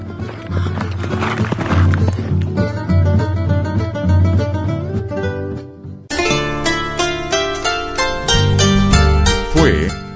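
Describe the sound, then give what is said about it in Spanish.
A horse gallops off at full speed, just mounted by a rider fleeing; its rhythmic hoofbeats and a brief whinny mixed into a loud, lively musical backing that swells after a short pause. “sin esperar hacer el negocio, salió disimuladamente y subiendo al caballo, escapó a toda carrera.”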